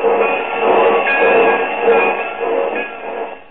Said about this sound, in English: The porter's helping him off the train.